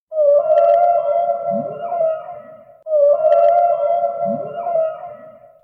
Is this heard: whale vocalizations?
yes